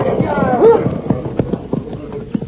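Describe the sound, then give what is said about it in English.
The horses of Cisco and Pancho clip-clop in a quick, steady rhythm of sharp knocks, moderately loud, with a brief voice heard early on beneath them. “White men, get off horses.”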